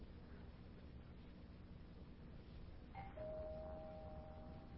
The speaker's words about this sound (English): Not even God can stop the second bell.